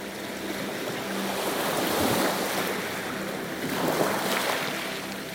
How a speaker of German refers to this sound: Das gleichmäßige Rauschen der Wellen macht dich schläfrig.